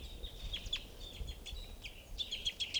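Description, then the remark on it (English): A single bird calls at a water hole with quick, repeated high-pitched chirps in uneven bursts, fairly faint over a low rumbling outdoor background, with no one talking. “Here's a lone bird.”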